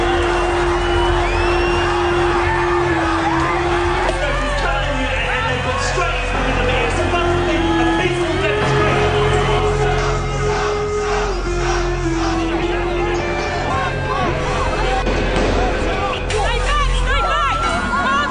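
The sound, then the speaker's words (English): A loud, dense crowd of anti-war protesters shouting and whooping nonstop as police use gas, stun grenades and rubber bullets to disperse them, many voices overlapping into a roaring din, with a steady droning tone running underneath for most of the time. “Resorted to using gas, stun grenades and rubber bullets to disperse the angry crowd.”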